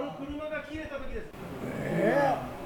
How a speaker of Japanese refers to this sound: えらい頻繁に車が来るだねえか、渡れへんのよ。 車が切れますね。